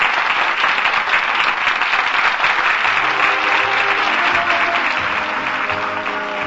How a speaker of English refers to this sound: The curtain comes down on the final act of tonight's new play in the Little Theater off Times Square. It's a hit. The first nighters are on their feet demanding encores. Listen to them applaud.